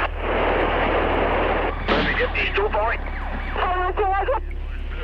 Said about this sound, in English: Police radio was a loud and frightening mess of sirens, gunfire, and panicked officers.